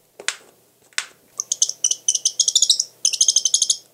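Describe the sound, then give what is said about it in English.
A northern saw-whet owl, one of North America's smallest owls, gives two sharp, clicking bill snaps, then breaks into a rapid, high-pitched twittering call in quick, stuttering bursts, clear with no voices. “And here's a twitter call with a snap of the bill.”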